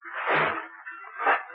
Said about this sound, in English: Hey! Something banged into us! It's the bell! It hit the deck!